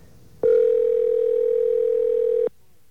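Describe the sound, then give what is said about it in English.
A failed cellular call tone on the OmniPoint network: one steady, unbroken electronic beep holding for about two seconds, loud, cutting in and out abruptly over faint background hiss. “Sounds like one of the ones that the cellular company has lost.”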